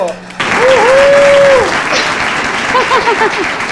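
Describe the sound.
An audience bursts into loud, sustained applause that holds steady for several seconds. Whoops and cheering voices rise over the dense clapping.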